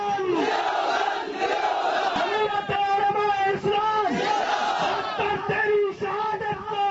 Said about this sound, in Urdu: اسلام آباد میں جے you I F کے کارکنوں نے نعرے بلند کر کے ڈاکٹر سومرو کو خراج عقیدت پیش کیا.